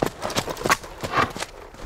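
Horse hooves clip-clop in a quick, steady rhythm, a run of sharp knocks at moderate volume with no voices over them.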